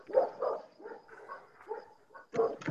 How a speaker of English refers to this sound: You have dogs in your background. I like the noise. Those aren't my dogs. They're somebody else's.